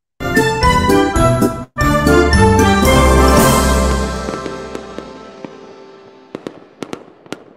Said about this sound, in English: Got to launch in the mood with the theme music.